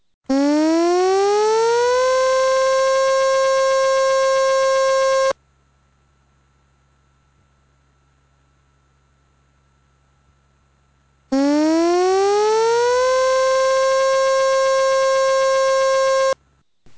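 A loud civil defense siren sounds twice for a tsunami warning, each blast winding up in pitch and then holding a steady, piercing tone for about five seconds, separated by a quiet pause.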